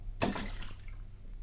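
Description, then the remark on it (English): A single drop of a woman's tears splashes into a witch's cauldron, a bright wet plop that rings out briefly and fades over a steady low background hum. “3 drops of a woman's tears.”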